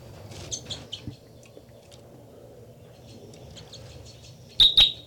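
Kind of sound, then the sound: bird, bird song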